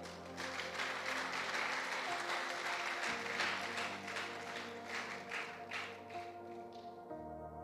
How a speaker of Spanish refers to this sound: Dele un fuerte aplauso a Él.